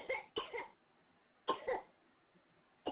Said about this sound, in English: Hold your mouth when you cough.